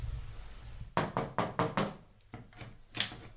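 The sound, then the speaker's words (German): A stuck door that will not open is rattled and knocked on in a quick burst of about five sharp hits, followed by a few softer thuds and a last louder bang, with no voices. “Ich komme die Tür nicht auf.”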